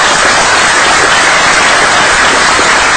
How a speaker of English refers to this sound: Thanks also to the Chief of Police is here. Give the Chief of Police a round of applause.